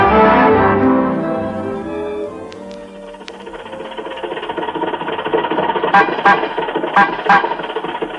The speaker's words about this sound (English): Rochester, Rochester, watch out. You don't honk at red lights, you stop for them.